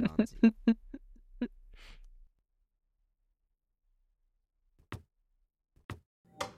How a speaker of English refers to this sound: As the door shuts to Omar's room, Mari turns to you, Mila.